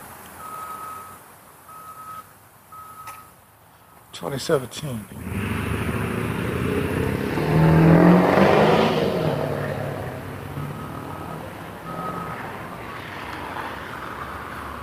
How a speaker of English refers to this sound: It's noisy here this morning. Here comes a dump truck.